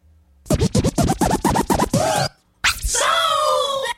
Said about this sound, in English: The old helicopter scratch.